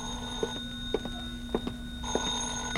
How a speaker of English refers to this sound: Then I packed a bag, was about to take off, when the phone rang again.